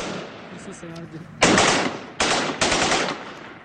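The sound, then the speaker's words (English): An exchange of gunfire between Syrian opposition and pro-regime forces in Damascus, Syria, broadcast by the opposition: loud, sharp bursts of rapid shots crack out in three clusters, the first after a quieter stretch with faint murmuring voices, each burst decaying into a rough, noisy tail. “And here, the Syrian opposition yesterday broadcast sound of exchange of fire between Syrian opposition and pro-regime forces in the capital, Damascus.”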